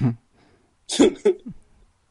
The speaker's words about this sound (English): Bless you.